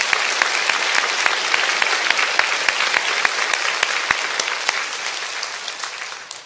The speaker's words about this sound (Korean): 오늘 새벽 예배를 위해서 새벽부터 수고해 주신 모든 찬양대 분들, 또 주차장에서 봉사해 주신 모든 주차 봉사부 분들, 우리 미디어팀, 예배팀, 또 교육부를 섬겨주시는 모든 봉사자분들께 큰 박수로 격려해 주시면 감사하겠습니다.